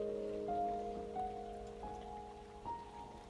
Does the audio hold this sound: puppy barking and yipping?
no